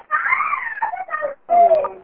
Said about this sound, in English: Somebody has screaming children in the background, and you're going to need to star 6.